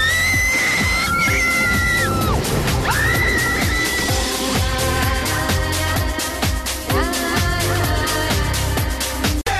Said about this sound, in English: One more time for the screams.